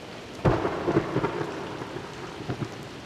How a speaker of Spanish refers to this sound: Una casa de barro, muy rústica, como todas las casas de San Fernando, los protegía de la lluvia que complicaba el paso de las tropas. Debo decir que la lluvia también nos acompaña.